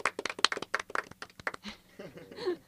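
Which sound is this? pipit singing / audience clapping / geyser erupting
audience clapping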